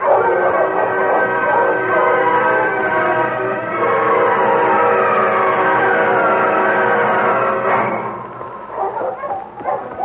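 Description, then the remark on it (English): A team of sled dogs barks and yelps loudly as the team sets off along a trail, urged on with the commands "On King! On your husky!", in a dense, continuous chorus that thins into scattered, separate barks near the end. “On King! On your husky!”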